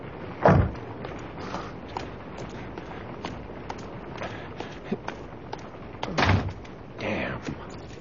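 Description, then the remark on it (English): A door slams shut with a loud thud during pouring rain, followed by scattered footsteps and small knocks over a steady background hiss, then a second heavy bang near the end. “You didn't have to slam the door.”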